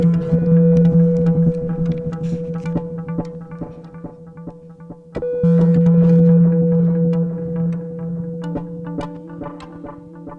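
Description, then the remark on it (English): Steady, droning tones from a synthesizer hooked up to a giant rose quartz crystal hum loudly and alone, holding low pitches that shift partway through and swell in volume, sprinkled with crackling clicks and brief pops. “Okay, he's got it hooked up to a giant crystal with a lovely terminal point on it of rose quartz.”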